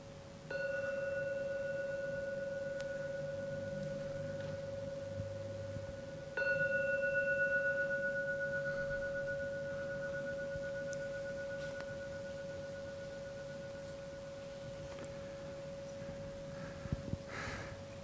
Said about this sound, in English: Getting close to the end of the meditation. Allow yourself to come out, to emerge. I will ring the gong 3 times. So you can come out from your meditation.